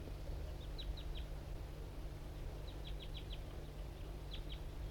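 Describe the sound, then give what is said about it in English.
A male wild bird calls from an oak tree right nearby in short bursts of high, quick chirping notes, three or four at a time, repeated with pauses over a steady low hum of background noise. “And the wild bird is still around up in an oak tree right nearby here.”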